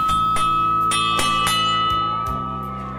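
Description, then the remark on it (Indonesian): A school bell rings for the second recess break with several quick, slightly uneven strikes, its bright tones overlapping and sustaining before easing off at the end. Loud, with no voices. “Sampai di sekolah, terdengar lonceng jam istirahat kedua.”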